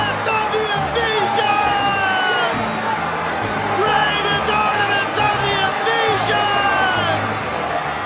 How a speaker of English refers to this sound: But when they realized he was a Jew, they all shouted in unison for about 2 hours.